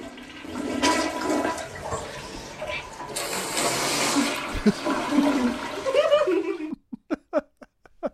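A toilet flushes with a loud, rushing gurgle of water lasting several seconds, then stops; a few short voiced bursts follow at the end as a deaf woman tries to imitate how the toilet sounds.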